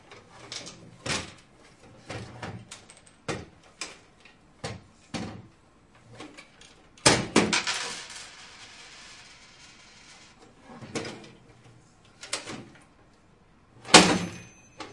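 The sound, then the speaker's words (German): A cash register drawer is handled repeatedly, with plastic clicks and clacks, then louder rattling slams as it shuts around the middle and again near the end. “Mach nicht die Kasse kaputt.”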